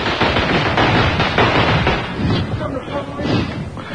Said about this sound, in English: loves fireworks